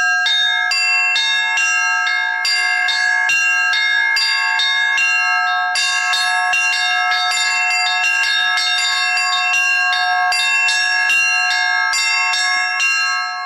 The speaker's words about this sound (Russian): Уникальную возможность испытать себя в роли звонаря, да еще в таком знаковом для православного человека месте, владыка Роман не упустил. Правда, под началом мастера, счет ученикам которого давно перевалил за 1000.